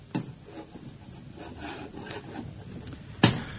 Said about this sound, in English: At Warmington-on-Sea, Captain Mannering has taken over the novelty rock emporium on the sea front and intends to use it as a forward command post. This evening, he is busy putting the final touches to a diagram on the blackboard.